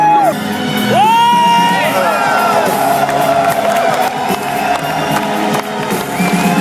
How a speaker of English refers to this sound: Le concert a commencé. Ouais. Les applaudissements sont nourris, les corbeaux volent sur fond d'écran.